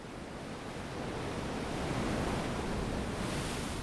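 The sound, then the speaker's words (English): Ocean surf rolls in with a steady, broad rush of wash, swelling slightly louder midway as a wave breaks on shore, continuous with no voices. “It is a poor substitute, we've learned, for the real thing. Ocean waves.”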